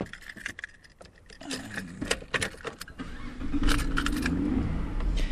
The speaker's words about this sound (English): Now, like many new cars, when I turn over the ignition, the computer in my car does a quick service check, and then it tells me after a few seconds whether anything is wrong.